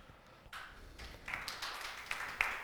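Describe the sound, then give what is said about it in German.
Faint applause from an audience, a soft, dense patter of many hands clapping with a few sharper claps standing out, building slightly and continuing steadily throughout. “Der hier mäßig erscheinende Applaus ist nur dem technischen Equipment geschuldet.”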